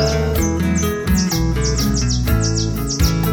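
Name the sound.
small birds singing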